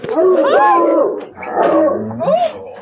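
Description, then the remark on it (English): Several friendly dogs in a tiny cage whimper and whine as they sniff people's scent, their high, wavering cries overlapping in two eager bursts with a brief dip between them. “We enter a tiny cage so the dogs can sniff our scent.”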